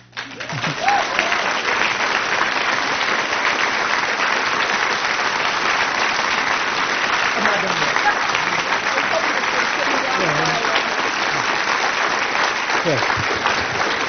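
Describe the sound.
An audience applauds steadily and loudly for about fourteen seconds, a dense, even wash of clapping with faint voices murmuring underneath.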